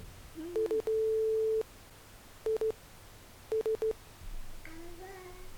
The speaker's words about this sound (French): Mais un étrange signal composé de bruits blancs, entrecoupés de bips plus ou moins longs. Ah. C'est du morse, ça.